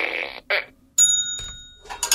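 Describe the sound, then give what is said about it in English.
Two short, buzzy fart sound effects blurt out back to back, then a bright bell rings out and slowly fades, with a few faint scraping noises near the end. “You don't like the fart.”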